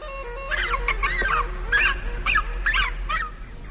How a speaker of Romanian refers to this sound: Tăcerea lui era înspăimântătoare, asemănătoare cu a bărăganului, sfâșiată doar de strigătele ascuțite ale hultanilor și vulturilor pleșuvi ce săpau cuiburile în nemărginitul defileu al dealurilor profilate în zare.